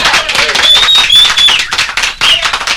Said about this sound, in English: I was about to say your host, Ken Morafe, and that's when the applause is supposed to happen.